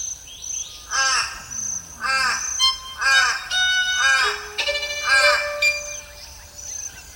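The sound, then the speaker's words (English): A pied butcherbird sings a run of rich, arching notes about once a second, mixed with clear piping whistles. The song is fairly loud, with a faint high background hiss. “When I began my investigations, I really felt no need for Pied Butcher Bird vocalizations to cross some imaginary hurdle”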